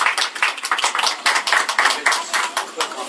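A crowd at the first Yavne PTA gathering of the year, held in a home, bursts into applause for the hosts, many hands clapping in a dense, steady patter that stays loud and busy for the whole few seconds.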